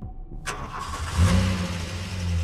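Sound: car driving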